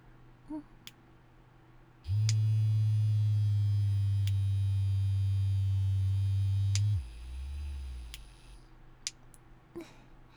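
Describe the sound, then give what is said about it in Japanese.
A slim vibrator toy switches on with a loud, steady low-pitched buzz that holds for about five seconds, then cuts off, followed by a briefer, softer, lower hum and a few faint clicks. “もう一つ連れてきてるのがバイブーさんなんだけど、”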